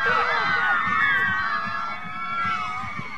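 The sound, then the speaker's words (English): A loud Shattuck crowd cheers and shouts continuously as the Shattuck Indians win the 2011 Class C state title 26-6 over the Tipton Tigers, a dense roar of many voices with high excited yells and whoops rising over it throughout. “As you hear that Shattuck crowd,”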